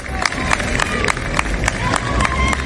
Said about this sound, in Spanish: Sí, aplausos a su entrada al juzgado antes de la lectura de ese fallo y aplausos a su salida.